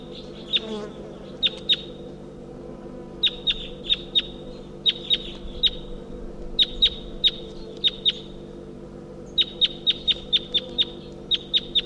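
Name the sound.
wild bird calls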